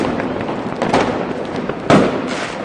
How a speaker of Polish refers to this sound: Co się dzieje ze zwierzęciem, kiedy słyszy te wszystkie wystrzały, huki, petard?